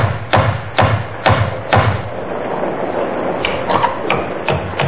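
Four firm, evenly spaced knocks on the wooden door of Webley's Inn ring out during a rainstorm with lightning and thunder, followed by a few softer, quicker raps against a low background hum.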